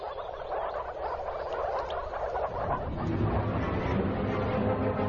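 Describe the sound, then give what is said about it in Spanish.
A dense, continuous chorus of male moor frogs (Arbalis), their intense blue colour showing they are ready to breed, calling all at once, a loud overlapping mass of croaks and trills with no pauses and no voices. “Su ruidosa reunión atrae a los depredadores, incluyendo una culebra de collar.”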